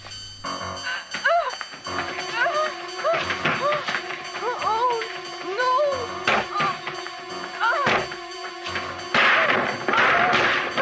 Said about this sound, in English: Breaking a lot of furniture. Yeah, that's the door that'll have to get replaced.